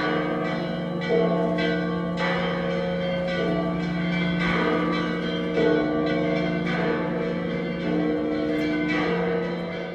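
A full peal of the church bells of the Church of the Holy Sepulchre in Jerusalem rings continuously, many bells overlapping in a dense, resonant wash with repeated strikes and long sustained tones, steady and loud throughout.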